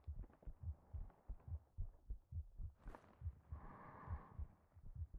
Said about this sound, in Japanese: 望むのならもっと近くに、もっと力強く抱いても大丈夫です。聞こえますか、私の心臓の音が。